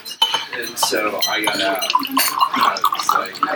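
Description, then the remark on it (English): Water is poured into a glass at the Café de Flore, a gurgling stream with a faintly rising ring, mixed with clinks of glassware and dishes against a murmur of voices. “So we're pouring the water.”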